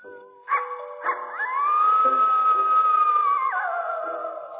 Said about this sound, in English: Probably just a coyote.